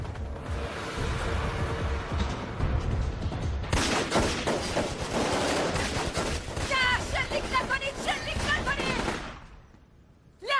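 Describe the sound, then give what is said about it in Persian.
A chaotic burst of gunfire: dense, rapid volleys of shots crackle loudly for several seconds, with sharp individual cracks standing out near the end before the firing abruptly stops. “گفتم تیر اندازی نکنید، امدادو خبر کنید احمقا.”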